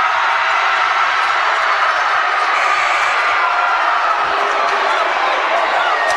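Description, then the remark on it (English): A loud, steady roar of a large high school basketball crowd cheering and shouting, with cheerleader voices mixed into the dense wash of noise that holds for several seconds without a break. “As you hear the crowd getting involved, cheerleaders getting involved, this is the way it's supposed to be.”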